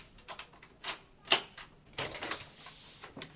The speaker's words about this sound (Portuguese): Vou abrir a porta.